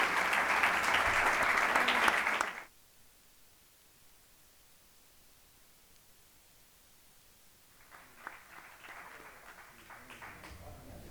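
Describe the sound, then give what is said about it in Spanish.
A burst of audience applause for the accompanying women's futsal team, dense and loud clapping for about two seconds, then it cuts to near silence before softer scattered clapping returns toward the end. “Entonces quería pedir un aplauso para el equipo que nos acompaña.”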